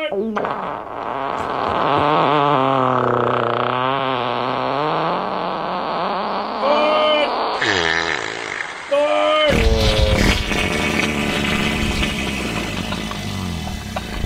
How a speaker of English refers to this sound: A three-fart salute right there.